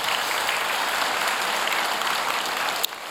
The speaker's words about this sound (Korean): 예, 우리 할렐루야 생가대의 아름다운 찬양 감사합니다. 찬양은 이 생가대 찬양은 여기 계신 모든 분들의 그 찬양을 대표해서 선별하여져서 이렇게 드리는 올려드리는 찬양입니다. 항상 함께 올려드린다는 마음을 가지고 참여해 주시면 감사하겠습니다. 우리 할렐루야 생가대를 위해서 한 번 더 박수로 격려하겠습니다.